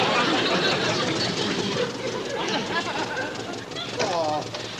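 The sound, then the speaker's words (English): A tractor bought from Haney drones loudly and steadily as it drags a plow, a dense unbroken rumble with a brief voice rising over it near the end. “After buying the tractor from him, I should have known better. Well, at least the tractor held together.”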